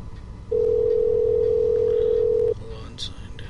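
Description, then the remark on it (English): A single steady phone ringing tone, as someone calls a man's campaign headquarters, sounds for about two seconds, a clear electronic hum over faint background noise, then cuts off abruptly. “I don't know what I'm going to say, but I'm going to call him. Hopefully somebody answers.”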